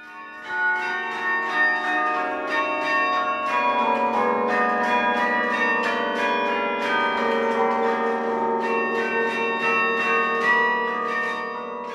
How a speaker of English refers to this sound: The carillon bells. First of all, do you like them? I love them. Are you kidding? Love them.